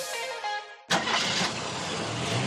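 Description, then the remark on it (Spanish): A car engine cranks with a whirring starter for under a second, then abruptly catches and roars into a loud, steady run, with no voices. “Coche.”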